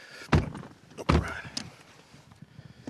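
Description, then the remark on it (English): People climb into a car: two loud, heavy thuds of doors shutting about a second apart, followed by a softer knock and faint rustling shuffles as they settle in. “We're getting in the car now, okay.”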